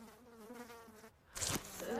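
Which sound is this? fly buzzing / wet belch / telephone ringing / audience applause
fly buzzing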